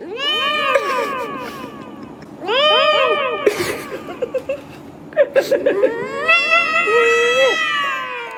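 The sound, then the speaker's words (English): Auto-tuned cat meows pitched and smoothed into sung, melodic notes, several long tuneful yowls in a row with crisp clicks between, loud, with no talking. “I didn't cover auto-tuning cats, which was a phenomenon, though we do have some sound of that.”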